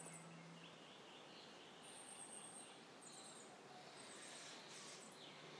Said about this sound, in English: Good morning all from Minneapolis Valley. This is day six and I just wanted to let you all hear the beautiful birds that we woke up to this morning.